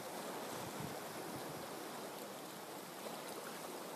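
A continuous, hissing wash of ocean surf on a beach rolls along at a steady level, with no distinct individual wave crashes standing out and no voices present.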